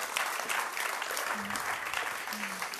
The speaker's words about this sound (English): Yeah, you can give God a clap for that. That's very good.